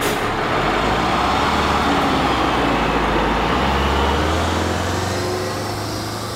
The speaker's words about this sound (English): That meant trying to sleep on a bus night after night as it drove from one engagement to the next.